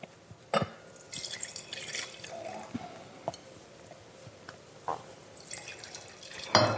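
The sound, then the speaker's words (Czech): Wine trickles and splashes from a glass carafe into glasses at a wine tasting in short, intermittent pours, punctuated by a few sharp glassy clinks, fairly quiet with no talking. “No dobre, tak otestujeme si, ako sa víno vydýchlo, ktoré bolo v tej flaške, v tejto karafe.”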